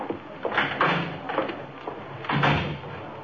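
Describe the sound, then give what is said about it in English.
A side door is opened and shut, with a series of knocks, rattles and a firmer thud near the end, moderately loud with no voices. “Use the side door, will you?”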